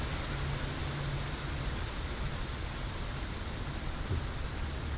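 A steady, high-pitched chorus of crickets chirps continuously over a soft background hiss, with no voices present throughout.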